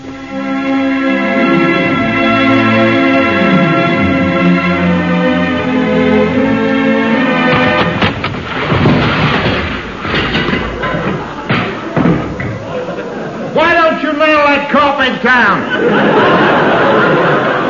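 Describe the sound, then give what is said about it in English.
A loud, jumbled crash and clatter lasting several seconds as someone slides on a carpet, bangs into a woman and bounces off, and she lands in a fireplace with her head in a metal coal scuttle, framed by voices and chuckling before and after. “I slid on the carpet, banged into her, bounced off. She finished up in a fireplace with her head in a coal scuttle.”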